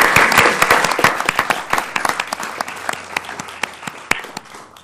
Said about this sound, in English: And how about a round of applause for this young lady? Thank you.